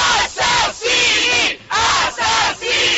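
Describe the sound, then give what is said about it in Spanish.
A crowd on the island of Lampedusa shouts a protest chant in unison, reported as "Murderers, you have done nothing," at the first-anniversary ceremonies of a sinking in which 368 migrants died; loud rhythmic bursts of many voices repeating with brief pauses between each cry. “Ese es el grito que sonaba ayer en la isla de Lampedusa.”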